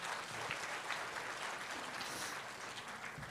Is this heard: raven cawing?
no